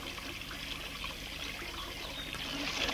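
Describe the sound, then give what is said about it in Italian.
Cold water trickles and runs steadily with a soft, continuous splashing hiss, fairly quiet, growing slightly fuller toward the end. No voices are heard. “È fredda l'acqua”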